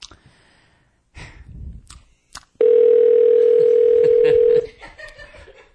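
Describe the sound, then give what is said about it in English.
A single loud, steady telephone ring tone sounds over a phone line for about two seconds on a call placed to Pittsburgh, Pennsylvania, preceded by faint rustling and a soft chuckle. “It's ringing.”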